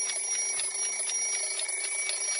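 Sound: alarm clock ringing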